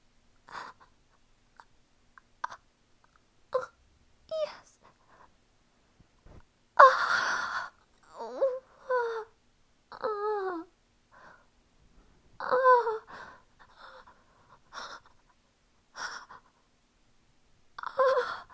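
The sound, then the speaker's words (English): Heavy, ragged breathing with sharp gasps and sighs, some breaths breaking into shaky, quivering moans that rise and fall in pitch, coming in uneven bursts with short pauses between. “Breathing heavy and quivering.”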